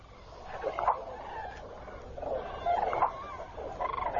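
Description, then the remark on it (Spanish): A flock of common cranes, gathering at night in a floodplain before migration, calls in overlapping bursts, bugling and trumpeting notes rising in a few clusters against a steady outdoor hiss, with no voices. “Las grullas se preparan para la migración. Por la noche, inmensas bandadas se reúnen en la zona de crecida.”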